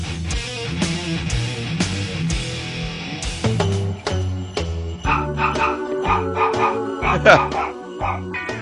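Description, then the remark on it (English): The barks of a dog named Teddy are cut and arranged into a bouncy Christmas melody, each yip landing on a note in quick rhythmic succession over a steady musical backing, loud throughout. “We're playing him barking to a Christmas tune.”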